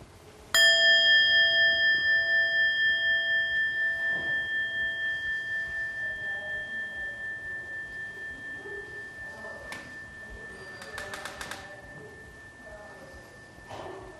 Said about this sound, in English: all I'm going to ask is that you take a moment to just listen Let the sound come to you. No way, no way to do it right or wrong. Just take the time and listen to the sound of the bell.